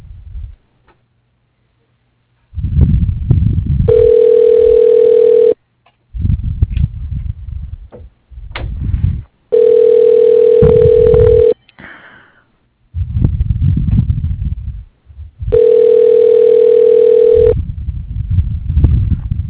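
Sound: telephone tone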